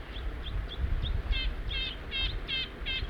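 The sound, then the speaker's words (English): A juvenile crossbill perched in a tree nearby gives begging calls while being chased by a sapsucker: a quick series of high chirps, starting as thin short notes and growing into louder, buzzier repeated calls over a low background rumble. “It looks like a juvenile and I can hear it begging.”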